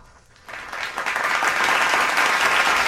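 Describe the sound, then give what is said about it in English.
Applause from a crowd for an actor's performance swells in suddenly after a quiet moment, then holds as a dense, steady wash of many hands clapping. “Just so you know, that random applause was for”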